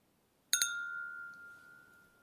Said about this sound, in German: Dann lass uns doch mal anstoßen.